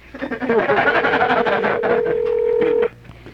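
A steady electronic telephone ring tone, on a call dialed to the Crazy Horse Saloon in Alaska, sounds for about two seconds through the earpiece line, over a busy, noisy background, then cuts off abruptly.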